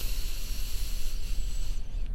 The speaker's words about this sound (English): Let's do a couple more cycles of breathing together. In through the nose.